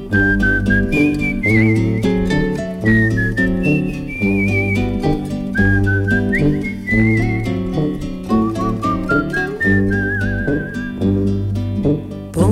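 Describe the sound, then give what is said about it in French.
Someone whistles a lilting melody in clear, wavering notes, riding over a full band accompaniment with steady rhythm throughout, loud. “Je somnole à jouer les rossignols, sifflotant mes refrains pour rien.”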